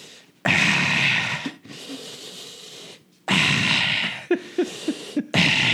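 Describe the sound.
A voice imitates heavy, lustful breathing: several long, loud, rasping breaths with short pauses, then a run of quick panting gasps and one last strong exhale.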